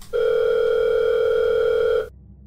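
A phone rings once with a single loud, steady electronic tone that holds for about two seconds and then cuts off abruptly. No voices, just the ring on its own.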